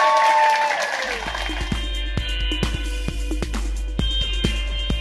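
A short burst of audience applause for Meryl O'Rourke fills the first second, then quickly gives way to sustained tones, a low hum and scattered sharp clicks.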